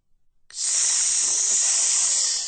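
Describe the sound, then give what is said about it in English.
A loud, steady hiss, as of an enormous boa constrictor, begins after a brief moment of quiet and holds unbroken to the end, sharp and airy, with no talking. “Sss, Monkey Fur hissed.”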